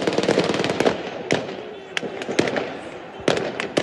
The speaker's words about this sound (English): Many thousands of Palestinians gathered for a funeral march, shooting guns in the air. This is what it sounded like.